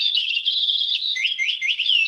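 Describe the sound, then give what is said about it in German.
A parrot character chirps continuously in bright, high-pitched trills and warbling squeaks, steady for about two seconds, with rapid rising and falling tweets toward the end and no talking. “Die klingt auch ein bisschen anders als ein normaler Papagei. Er krächzt ja”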